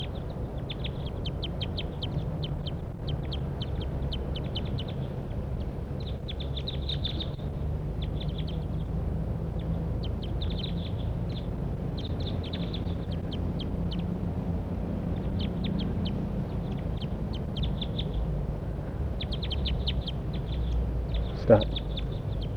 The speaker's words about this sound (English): Start recording. Those wild birds are calling now. Pointed at the wild birds. And one's making an approach down to the net. Stop. Start recording the wild birds calling. Wild bird.